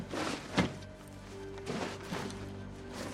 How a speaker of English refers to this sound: He slaps the curved blade on her desk.